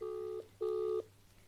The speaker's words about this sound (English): It's ringing. Please answer.